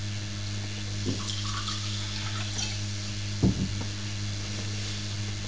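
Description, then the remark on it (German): Water runs steadily into a cup, a continuous trickling hiss with a couple of soft knocks partway through. No one speaks. “Da möchtest du dein Wasser rein?”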